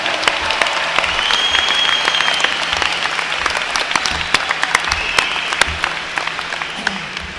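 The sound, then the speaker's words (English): A crowd claps steadily and fairly loudly, with dense overlapping hand claps sustained throughout and occasional sharper individual claps standing out. “And once again, I think we should give them a big round of applause.”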